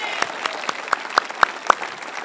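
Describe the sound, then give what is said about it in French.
Applause for Nouvelle Vie Drummondville in a steady, even rhythm: about seven sharp claps in quick succession, each a little louder than the last, with no talking over them. “Je vais applaudir Nouvelle Vie Drummondville de ville en ville.”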